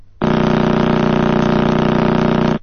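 Sonified pulses of a neutron star rotating about 33 times per second: a loud, steady, rapid throbbing like an idling diesel tractor engine, starting and stopping abruptly and lasting a little over two seconds, with no voices.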